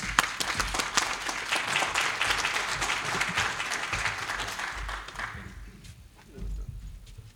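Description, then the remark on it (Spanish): An audience applauds to welcome a speaker at an event held in the Comisiones Obreras facilities, with a dense, steady wash of clapping that holds for about five seconds before thinning out and fading to scattered claps. “Un fuerte aplauso.”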